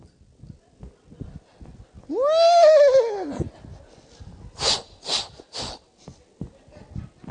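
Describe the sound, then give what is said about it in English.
A voice imitates the whinny of a big white prancing, dancing mare: one loud, wavering neigh that falls in pitch, followed by three quick, breathy snorting bursts in a steady rhythm, with faint noise around it. “Now, if it was you or me, I would have chose a prancing, dancing mare. Big white horse, probably about 7 feet tall.”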